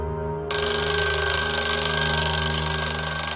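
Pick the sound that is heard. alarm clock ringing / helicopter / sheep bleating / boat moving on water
alarm clock ringing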